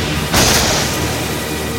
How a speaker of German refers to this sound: Das Unwetter wird immer schlimmer und der Sturm knickt eine Baumspitze um.